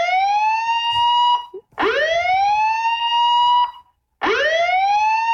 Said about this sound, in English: Does it have to be so many times in a row? I don't actually have the siren. I'm not actually controlling it. It's just a sound effect.